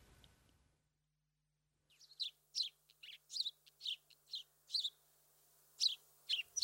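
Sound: sparrow chirping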